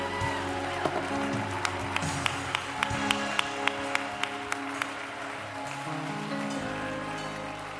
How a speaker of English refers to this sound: It's the people he loves. Clap your hands and celebrate that with me right now.